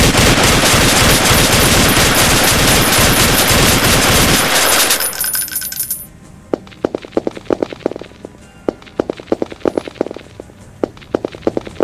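A dense, loud burst of rapid gunfire roars for several seconds, then breaks off into scattered sharp single cracks and clatters, with no voices.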